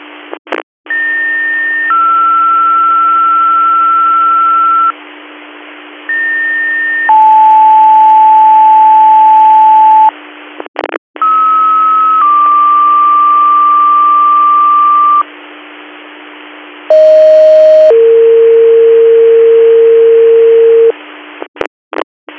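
Sequential two-tone radio dispatch paging alerts, toning out a call, play over a hissy, narrowband radio channel: long steady pitches, each pair stepping down, repeated several times with brief bursts of static between them.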